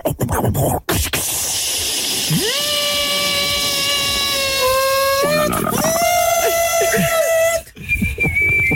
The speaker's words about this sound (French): Allez, cocotte minute, on prend.